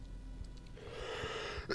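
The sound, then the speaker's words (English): A raspy, breathy hack from someone who has been sick drags on for under a second, then a sharp, harsh cough bursts out at the end. No one speaks. “Bro, I can't stop coughing, dude.”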